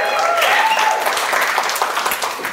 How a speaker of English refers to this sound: Thank you so much for that unscripted, unplanned, unprovoked, unrequested burst of applause.